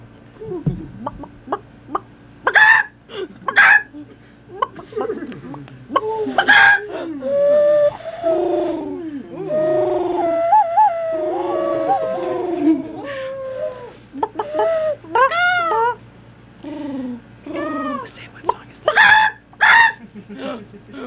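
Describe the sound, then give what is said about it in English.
People take turns mimicking bird calls with their voices, a loud string of clucks, squawks and warbling whistles that keeps going for about twenty seconds, as a 30-second bird-sounds segment before a song. “Before our next song, we're going to do our next favorite segment. Bird sounds. Bird sounds, 30 seconds.”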